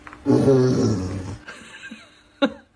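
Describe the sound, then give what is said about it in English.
A person's voice imitates a lion's roar: one loud, low, rumbling growl for over a second, trailing off, followed by a short breathy burst. “They thought that your lion noise was really good. Everyone thought it sounded so real.”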